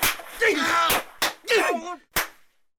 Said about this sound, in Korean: 울분에 찬 광부는 감독에게 주먹질을 했고.